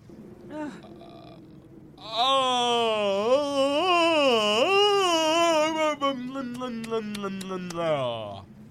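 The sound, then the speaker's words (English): A loud, drawn-out voiced yawn lasting about six seconds, its pitch wavering and rising before sliding down at the end, preceded by a brief murmur. “That's how I yawn.”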